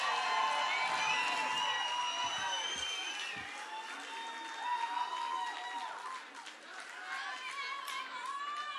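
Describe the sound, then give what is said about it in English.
A crowd at a band's concert applauds and cheers, with high whoops and yells rising over steady clapping that holds loud for the whole stretch, dipping briefly before swelling again. “I've done that a few times around the world with the band, and this is by far the best that I ever experienced, so give yourself a round of fucking applause.”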